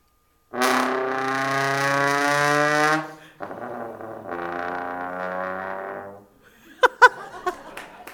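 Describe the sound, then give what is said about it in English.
A trombone mimics a Batmobile engine with a loud, buzzy sustained blast, then a softer, rougher growling tone like revving, followed by a few sharp clicks. “Can the trombone sound like a Batmobile?”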